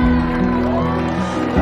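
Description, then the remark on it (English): A crowd of wedding guests on the other side of a bridge cheering and whooping in a steady, loud wash of overlapping voices that holds for the whole moment without pause. “The guests are cheering from the other side of the bridge.”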